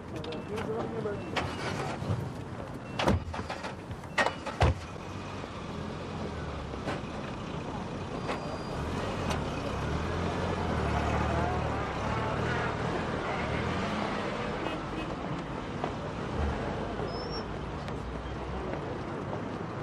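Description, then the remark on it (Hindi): A few sharp thuds like car doors shutting, then a steady engine and road rumble as a vehicle drives along, with voices speaking over the noise. “आइए बैठिए गाड़ी में, बैठिए।”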